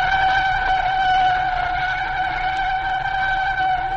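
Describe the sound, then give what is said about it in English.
A car skids to a stop with a loud, sustained tire screech, a steady high-pitched squeal that holds for several seconds without letting up, with no voices. “I'll stop the car right there on the corner of 3rd Street.”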